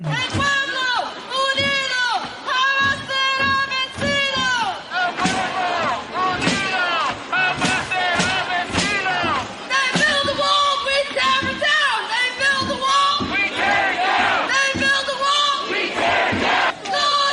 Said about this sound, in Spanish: Y mientras, con el frío y las tormentas y todo que hay, nada más date cuenta de lo que grita la gente en la calle. Mira lo que dice la gente en Minnesota.